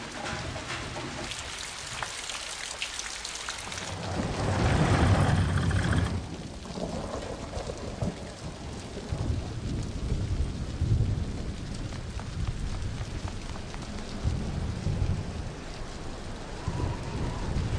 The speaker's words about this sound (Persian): ماشین آب و هوا موجودات فضایی هوا رو برای انجام کاراشون سرد و بارونی کردن.